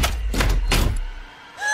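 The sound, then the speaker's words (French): A door lock clunks shut with about three loud mechanical thuds in quick succession over a low rumble, then a short electronic tone sounds. “Porte déverrouillée. Non, mais non ! Porte verrouillée.”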